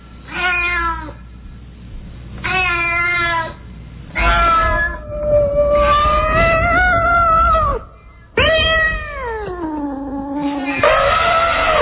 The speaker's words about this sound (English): It's just a cat meow, but they're not going to react to that.